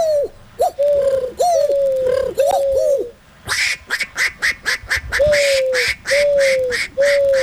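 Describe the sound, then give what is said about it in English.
A man's voice imitates a dove's cooing with a series of wavering hoots, followed by a burst of rapid, breathy pulsing notes. “I wonder if he can do a dove.”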